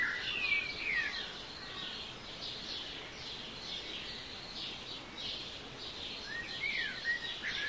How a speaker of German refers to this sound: So zwitschern, auf Englisch twittern, sie Tag für Tag aufs Neue, ohne Computer und ohne Strom, aber voller Energie.